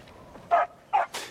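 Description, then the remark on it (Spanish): A dog barks three times in quick succession, sharp mid-pitched woofs rising out of a quiet background, moderately loud, with no one talking. “Y también mata al perro.”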